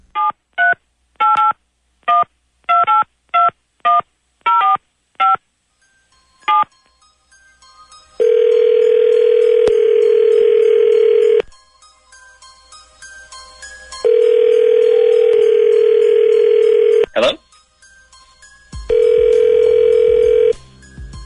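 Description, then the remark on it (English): A rapid run of about ten short telephone keypad beeps in two-tone pairs, followed by loud, steady dial tones that sound in long stretches with brief gaps between them. No voices. “Let me get you your dial tone, and then it's off to the races.”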